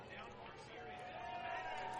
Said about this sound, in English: Always dangerous, Riku Nishida is retired, and you hear a nice little round of applause from the family-oriented Sunday crowd as the Bat Dog Casey been getting a lot of work and a lot of new fans at the start of this season.